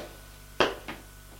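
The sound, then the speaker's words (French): A door leading to the cellar stairs opens with a sharp clunk of the latch, followed a moment later by a softer knock, over a steady low hum. “Il va vers la porte qui donne aux escaliers de la cave. L'ouvre.”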